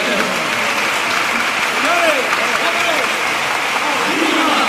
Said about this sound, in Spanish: Así que, por favor, un fuerte aplauso.